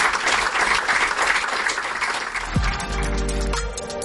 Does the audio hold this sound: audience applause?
yes